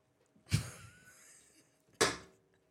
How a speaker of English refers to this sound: As he takes a sip.